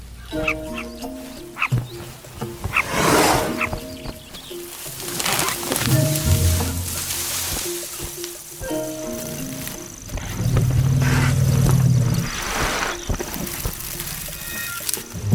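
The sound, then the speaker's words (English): An African bull elephant cuts a swathe through grass, with repeated rustling swishes and low rumbling grunts, all set beneath a steady musical score, with no talking. “Nothing cuts a swathe through grass like an African bull elephant.”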